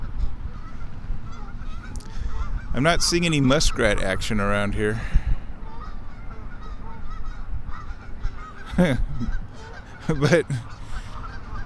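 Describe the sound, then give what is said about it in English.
Geese out of sight in hidden finger ponds honk and squabble in a raucous cluster of overlapping calls, then two more sharp honks follow a few seconds apart, while a person speaks quietly. “And there's some geese in the hidden finger ponds that are going nuts. I can't see them, but I can hear them back there.”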